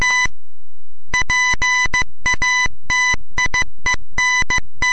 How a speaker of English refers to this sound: Inventor Samuel Morse gives his first public demonstration of the telegraph, dots, dashes, and all, in Morristown, New Jersey.